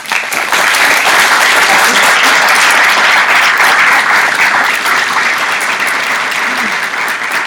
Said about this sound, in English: And I'd like us to give a hand to our organizers and helpers